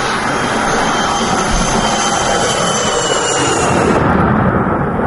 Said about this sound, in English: there were large speakers stationed outside the hole which would play strong noises that sounded like jet engines